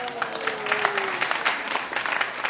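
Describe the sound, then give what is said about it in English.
A studio audience bursts into steady applause and cheering for a contestant's correct guess, Silver Linings Playbook, a dense wash of clapping with a faint whistle-like tone early on, fairly loud and continuous throughout. “I can tell the crowd was really rooting for you on that one.”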